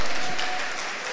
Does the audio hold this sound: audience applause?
yes